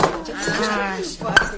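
Champagne glasses and bottles clink together, with a few ringing, wavering tones and one sharp, bright clink near the end; no one speaks.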